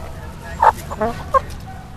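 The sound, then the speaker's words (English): Chickens cluck in three short, sharp bursts spaced about a third of a second apart, moderately loud over a faint, steady background hum; four chickens and two roosters kept in a school garden at Castlemont High School in East Oakland. “At Castlemont High School in East Oakland, wedged between the campus, parking lot, and football field, live four chickens. Where we have four chickens and two roosters.”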